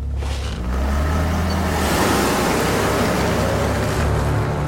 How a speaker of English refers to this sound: As the car speeds into the night, darkness falls once more.